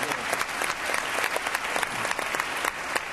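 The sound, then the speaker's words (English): A crowd applauds steadily for the work of the men and women in uniform, many hands clapping in a dense, crackling wash that holds an even loudness for the whole stretch, with no voices standing out above it. “I think a round of applause for that.”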